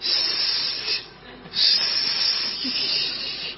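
A steady, airy hiss of butane gas leaking, continuous for the whole stretch with a brief dip and then a louder surge, bright and high-pitched with no voices.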